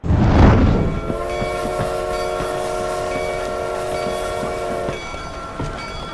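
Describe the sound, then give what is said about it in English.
An Atchison, Topeka, and Santa Fe Railroad train bound for Dodge rumbles along the tracks with a steady rolling clatter, while its horn blares a long, sustained blast for several seconds before cutting off. No one speaks. “The schedule said the next train would depart within the hour, arriving in Dodge before dawn.”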